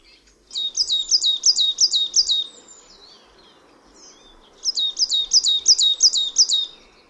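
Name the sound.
marsh tit song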